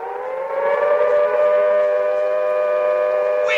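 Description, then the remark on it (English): A loud, sustained siren wails steadily with no break, its layered harmonic tones holding a constant pitch throughout; it sounds from spikes on top of a Sphinx-headed building as the Eloi file toward its open panel doors. “As more Eloi enter the dark chamber beyond the doors, the siren spikes on top retract, and the doors start to close, with Wina inside.”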